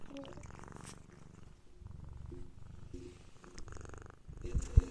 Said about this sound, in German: Hallo, schnurrt bei dir gerade eine Katze? Yes. Ja! Oh, Entschuldigung. Ich hör's. Baby. Ich war erst so, ist es wieder ein Flugzeug im Hintergrund? No. Nein, es ist eine Katze, die ins Mikro schnarrt.